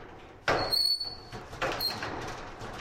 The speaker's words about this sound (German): Auf der Baustelle klopft der kleine Postbote erneut an die Stahltür des Bürocontainers.